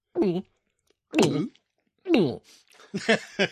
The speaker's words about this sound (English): Wow, he swallowed a lot.